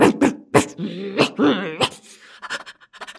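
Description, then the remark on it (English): Dogs growl and bark: a few sharp, loud barks break through a rumbling growl, then the sounds trail off into quieter panting huffs. “Suddenly, they heard growling and barking.”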